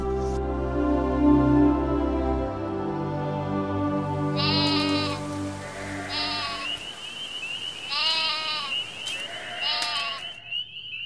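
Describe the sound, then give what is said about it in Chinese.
Two fat young goats bleat about four times in quick succession, shrill and quavering, over a low droning tone that fades out partway through, leaving the bleats on their own. “雅各便去拿来两只肥山羊羔，交给母亲利百加”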